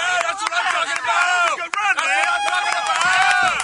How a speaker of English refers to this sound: Oh, the guys are back cheering. Oh, there they go. Rowdy bunch. It is a rowdy bunch.